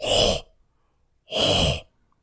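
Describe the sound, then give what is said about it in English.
Two loud, heavy breaths blown right into a webcam microphone during a Zoom video call, each about half a second long with a rough, windy hiss, separated by a pause of near silence. “are you just breathing on the webcam?”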